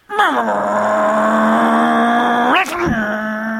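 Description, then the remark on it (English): A man's voice imitates the engine of a car with a 3-speed column shift being revved with the clutch in, holding a loud, steady droning tone for about two seconds, then breaking off with a quick dip before a second, softer drone. “He'd put the clutch in and he'd rev it up.”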